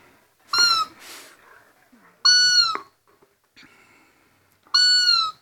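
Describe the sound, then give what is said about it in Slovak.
At a competition in calling deer and other game, a voice imitates a roe deer fawn's cry: three high, plaintive, tonal bleats, each about half a second long, spaced evenly with short pauses and a breathy sound after the first. “Najradšej mám nárek srnčaťa, lebo to mi príde také najviac precítené tým, že to srnča plače a snaží sa zavolať tú svoju mamu.”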